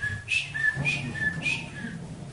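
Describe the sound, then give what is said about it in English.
A person whistles a bird's chirping: short, bright, high-pitched tweets repeated in a quick, uneven rhythm over a low background murmur, moderately loud and with no speech. “He was chirping away.”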